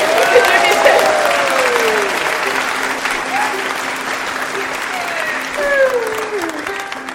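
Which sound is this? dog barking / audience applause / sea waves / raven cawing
audience applause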